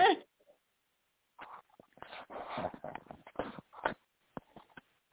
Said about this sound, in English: You got the fucking hiccups already?